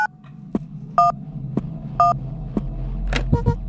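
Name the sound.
telephone keypad dialing tones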